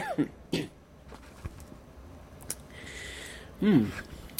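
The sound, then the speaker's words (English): A person who has quit smoking a pipe clears their throat and coughs in short, rough bursts: two quick ones at the start, then a quiet pause before one more throaty hack. “Quit smoking and you cough more than you ever did when you smoked.”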